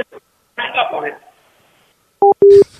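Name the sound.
telephone redialing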